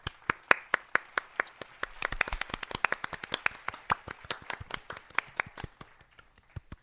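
Soft, polite golf clapping from a few people for Fremont Bank, light crisp claps in a loose rhythm that thickens briefly in the middle and then thins out to a few scattered final claps.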